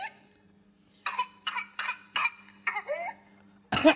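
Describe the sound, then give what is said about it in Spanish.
A child's whooping cough: a rapid run of about six harsh cough bursts, then a loud, high-pitched whooping intake of breath, clear with no talking. “Tose y cuando inspira... El gallo, porque el gallo lo que hace es que está provocando un broncoespasmo y entonces no le llega el aire a los pulmones.”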